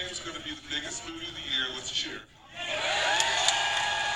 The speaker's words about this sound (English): I heard some boos. Here's the cheer.